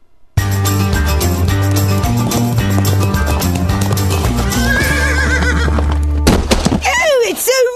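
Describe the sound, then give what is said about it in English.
A loud, busy musical bed with steady clip-clopping hooves, ending in a horse's shrill, wavering whinny that rises and falls near the close. “I hate when a drunk horse knocks me flat on my titties.”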